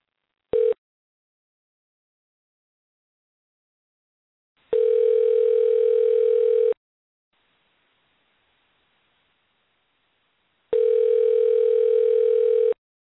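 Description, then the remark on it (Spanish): A phone call to Kelly Pavlik's cell phone rings unanswered: a short click-like beep, then two steady two-second ringback tones separated by a roughly four-second silence, mid-pitched and even, with no voices. “Mira, vamos a intentarle a Kelly Pavlik en este momento, aunque me mandó un texto su publicista y me dice que está fuera del alcance del celular, pero como que le vamos a insistir a ver si nos contesta.”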